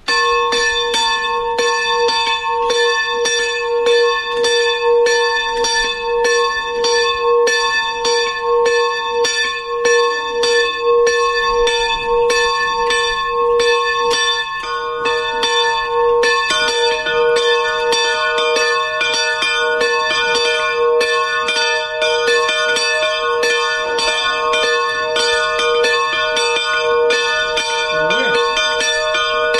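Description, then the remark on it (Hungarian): The bell of the rock chapel at Miskolctapolca rings steadily and loudly for the whole stretch, its strokes repeating in a regular rhythm with long, shimmering overtones that hang and blend together. “Az elmúlt percekben hallható harangszó a miskolctapolcai sziklakápolna harangja volt.”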